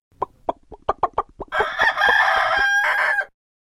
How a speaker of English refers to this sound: It's a chicken.